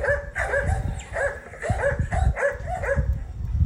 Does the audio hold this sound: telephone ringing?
no